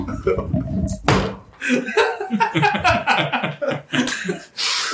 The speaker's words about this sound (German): Was hast du vom Stuhl gefallen?